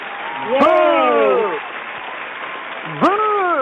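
crowd, applause

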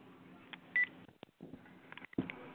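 household object, switching phones

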